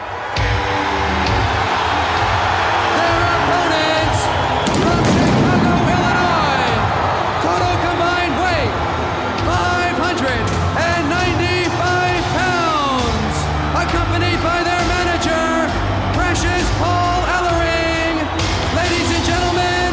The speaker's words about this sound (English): This crowd is just so hot. One of the things I like so much about this event is so you get the Road Warriors taking on the Skyscrapers, and the crowd reaction to the Road Warriors when they come out is unbelievable on the show.